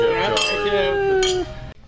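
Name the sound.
glasses clinking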